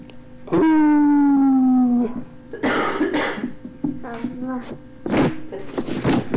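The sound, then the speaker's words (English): A person imitates a howl with a sustained, slightly falling vocal tone lasting over a second, followed by breathy, scratchy noises and short throaty vocal bursts, fairly loud. “Not a very good howl”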